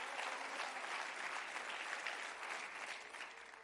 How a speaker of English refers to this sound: Let's clap our hands and praise God today.